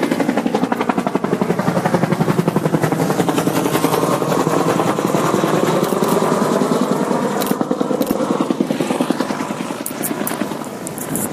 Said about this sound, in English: I don't know if they're doing rides or what, because it looks like people are hanging out the side of that helicopter.